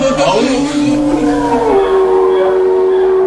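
Wolves howl close by, several long overlapping wails that slide in pitch and hold steady, loud and continuous for a few seconds with no talking.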